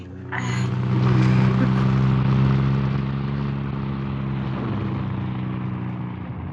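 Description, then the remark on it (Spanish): A steady engine rumble with strong low harmonics swells and holds as cars pass on a street early in the day, loud and continuous with broad road noise underneath. “Los carros pasan mientras ellos solo quisieran tener un pobre techo donde tenderse a descansar.”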